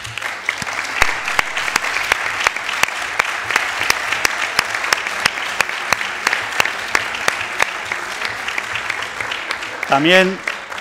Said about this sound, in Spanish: Así que un fuerte aplauso de verdad para las tres.